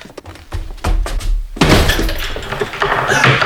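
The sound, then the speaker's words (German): A few dull thuds lead into a loud door slam, followed by a couple of seconds of rattling and clattering as the door settles and is locked, with the key in the lock on the outside. “Tür ist zugefallen. Sie ist abgeschlossen.”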